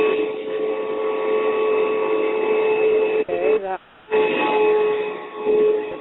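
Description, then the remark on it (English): A vacuum cleaner drones steadily in the background over a muffled phone line, a continuous whining hum that cuts out briefly midway before resuming at the same level. “That sounds like a vacuum or something going in the background there.”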